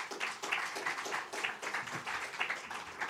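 An audience applauds, a dense, steady patter of many hands clapping at once for about three seconds, bright and crackling, with no voices over it.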